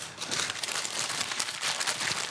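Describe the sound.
An imitation of a paper bag being rustled: a steady, hissy crinkling and crackling that runs evenly for a couple of seconds at moderate loudness, with no talking.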